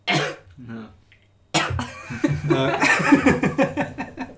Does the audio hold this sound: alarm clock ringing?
no